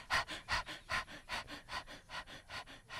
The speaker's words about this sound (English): Hear the breathing?